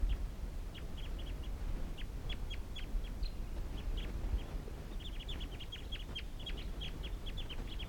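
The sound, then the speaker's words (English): A wild flock of birds calls in short, high, repeated chirps, scattered at first and then thickening into a busy run of calls over a steady low rumble, with no one speaking. “And these are the wild birds calling.”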